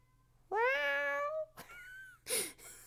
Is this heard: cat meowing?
yes